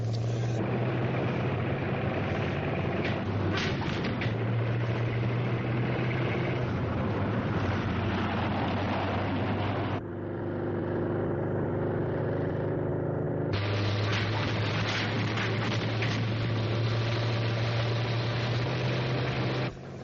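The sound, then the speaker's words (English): A vehicle engine with a tachometer, manual override and transmission is given gas: it runs loudly and steadily, dips briefly to a lower, quieter drone midway, then surges back to full power and holds there, with no voices. “The rest of it's just like your family car, except there's a manual override and transmission. Go ahead, give us some gas.”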